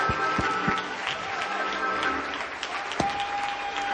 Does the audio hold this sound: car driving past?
no